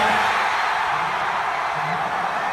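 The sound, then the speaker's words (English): A gymnasium crowd of Northwestern Wildcats fans roars nonstop as they learn of their number eight seed and first-ever tournament appearance: a dense, steady wall of screaming and cheering with scattered whoops and yells rising out of it, loud from start to finish. “The difference between tepid applause and a gymnasium full of screaming fans?”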